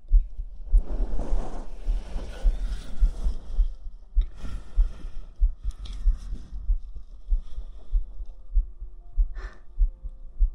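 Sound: heartbeat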